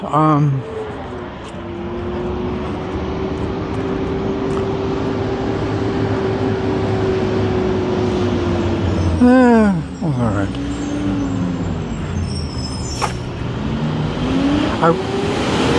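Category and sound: vehicle, garbage truck driving past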